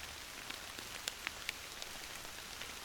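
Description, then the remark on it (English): Steady rain patters on a surface, a soft continuous hiss broken by a few sharper drips and taps. It sounds gentle, with no voices. “As you sit here, listen to the rain.”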